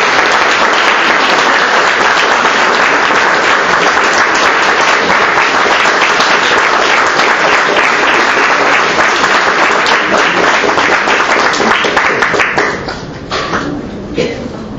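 Loud, sustained applause from an audience, a dense wash of many hands clapping steadily for about twelve seconds before thinning out and fading near the end.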